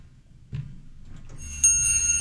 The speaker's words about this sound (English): Sounds like a wind chime. It probably was wind chimes.